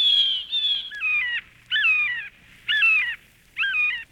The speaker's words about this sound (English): Yes, it's true. Northland crows speak with a Norwegian accent.